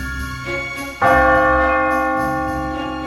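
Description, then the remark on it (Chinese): A large nearby clock bell strikes the time at half past six: a softer stroke followed by a loud, deep chime whose rich ringing overtones hang and slowly fade. No voices. “附近的大时钟报了时，正好六点半。”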